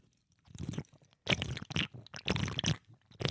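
Close, loud sipping and slurping noises come in several wet bursts separated by short pauses, with no voices talking.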